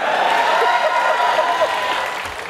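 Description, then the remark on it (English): A studio audience breaks into steady applause, a dense wash of many hands clapping with crowd noise mixed in, sustained at an even, fairly loud level the whole time. “Firstly, you should never have to ask an audience to cheer for you, like for something you've said.”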